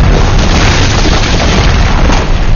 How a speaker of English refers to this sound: The strident chemical blast filled the well, smashing it apart, causing an avalanche of stones and timbers from above.